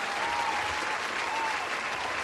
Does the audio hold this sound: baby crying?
no